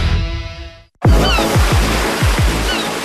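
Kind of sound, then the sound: nature, sea waves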